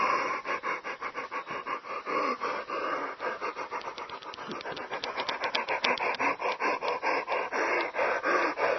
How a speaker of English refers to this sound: So I'm circulating the breath, I'm spinning the breath like a wheel while the yawn is happening.